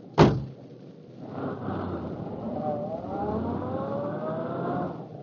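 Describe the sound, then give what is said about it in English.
A car door slams shut once, sharp, then an engine starts up and hums steadily, its pitch slowly climbing as the car pulls away. “We're going your way. Get into the car.”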